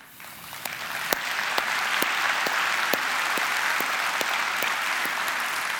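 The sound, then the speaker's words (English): A crowd breaks into applause that quickly swells and holds steady, a dense wash of clapping with a few sharper individual claps standing out, sustained and fairly loud with no speech. “And why do we applaud in moments like that?”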